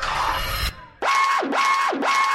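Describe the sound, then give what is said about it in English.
A loud alarm siren sound effect in a DJ's intro whoops in quick repeating sweeps, rising and falling about three times in rapid succession, right after a brief burst of dense noise cuts off. “Sound the alarm. Sound the alarm.”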